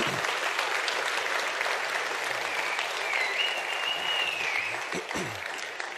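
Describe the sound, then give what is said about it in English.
An audience applauds steadily for several seconds to welcome people watching online, a dense, continuous clatter of many hands clapping, with a faint whistle rising briefly over the noise before it tapers slightly. “Let's clap for them.”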